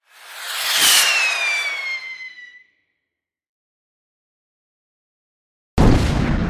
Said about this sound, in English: The force of the explosion sent Mushu and Kriki flying through the air. Mulan and Shang fell together to the ground as fireworks began to fill the sky.